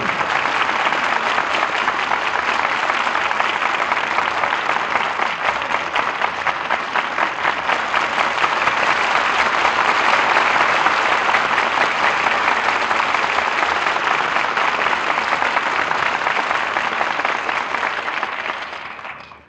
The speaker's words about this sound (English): Deserved applause for our stars who have made the suspects so exciting an experience. Charles Lawton, Ella Raines, and Rosalind Even.